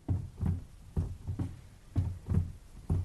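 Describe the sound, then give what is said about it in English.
Mrs. Alcott's old rocking chair in the Alcott family house rocks back and forth, giving low, muffled creaks and thumps in a steady paired rhythm, roughly two beats per second, fairly soft, with no one talking. “I can't help but think when I hear this rocking that she must have sat here quite a bit, very worried.”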